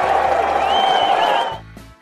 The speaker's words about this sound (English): I love golf crowd reactions. Hear the whack. Oh, oh, oh, oh. What does that sound like?